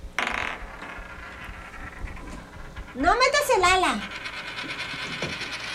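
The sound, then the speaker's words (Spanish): A coin tossed to choose between águila and sol lands with a bright metallic ring, wobbling and spinning for about a second before settling on águila, while people talk around it. “Y voy a escoger... No, no me pongas águila. Escoges sol.”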